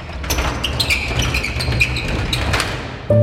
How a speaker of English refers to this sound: You know, you hear the gates slamming behind you, and everything is just weird and different in a prison.